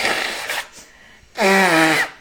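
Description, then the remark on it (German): Someone blows their nose twice: a short, breathy rush of air, then a longer, loud honking blast with a buzzy, slightly falling tone. “Oh, ich muss einmal noch mal Nase putzen, ey, ist richtig krass.”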